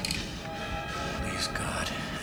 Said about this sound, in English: The train's coming in towards Pier 6.